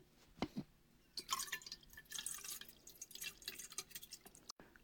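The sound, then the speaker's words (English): Water trickles and splashes from a tap into a glass, a bright, irregular patter of drips and pouring that swells and fades over a few seconds with no one speaking. “I'm gonna get you a glass of water.”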